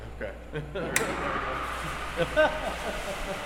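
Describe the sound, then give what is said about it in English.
At a bus wash facility, a sudden sharp burst of noise kicks off a steady, broad hiss of spraying water as the wash starts up after someone passes its sensor eye. The spray keeps running, with faint voices murmuring underneath. “And this is the bus wash facility. But careful, that'll set it off.”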